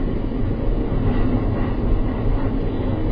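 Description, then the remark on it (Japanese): A night train rolls steadily along the rails with Himeji as the next stop, a continuous deep rumble with faint rhythmic clatter, fairly loud, with no voices. “夜行列車では盗難の恐れがありますので、貴重品には十分にお気をつけください。”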